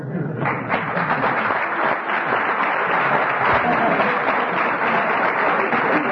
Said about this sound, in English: I invite you to give a warm applause and welcome to our guest.